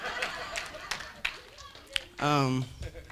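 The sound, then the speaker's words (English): Scattered audience applause for themselves, after being thanked for having prayed and interceded, with a handful of sharp, uneven claps spread across a few seconds rather than a dense ovation. Midway through, a voice gives a short, loud sustained cheer. “Give a round of applause for yourself.”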